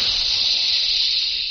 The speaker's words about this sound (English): That jet of fresh, pure moisture stands for the new freshness, new taste, and the new, all-new Raleigh 903 cigarette.